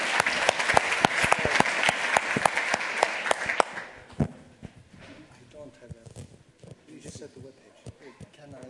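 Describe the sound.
A burst of audience applause, dense clapping from many hands for about four seconds, then fading out as scattered voices and room noise take over.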